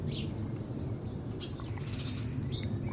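blackbird singing

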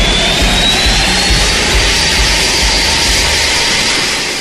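military aircraft flying overhead

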